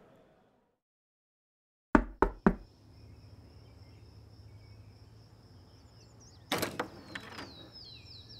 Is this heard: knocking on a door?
yes